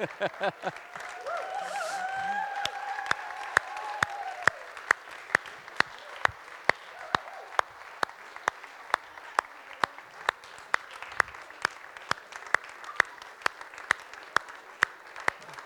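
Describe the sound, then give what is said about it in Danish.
An audience applauds steadily, settling into a regular rhythmic clap with sharp, evenly spaced beats over a constant crowd murmur; some voices rise briefly near the start. “Bare bliv ved med at klappe.”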